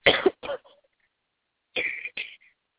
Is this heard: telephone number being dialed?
no